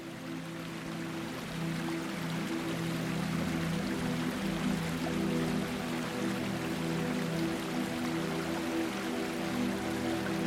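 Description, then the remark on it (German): Iron-rich spring water flows and trickles steadily through a garden along a course marked with red-stained stone, a continuous splashing wash with no pauses and no voices, a faint low hum running underneath. “Das eisenhaltige Wasser wird von vielen als Heilwasser geschätzt.”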